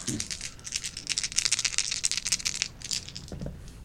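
Dice clatter and rattle across a table in a quick burst of bright, clicking impacts for a few seconds, with a faint voice murmuring at the start and near the end.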